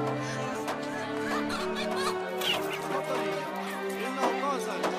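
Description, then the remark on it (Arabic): Chickens cluck repeatedly in short, choppy bursts over a steady low humming background that stays constant throughout. “هل يمكنني أن أنظر إلى الطيور؟”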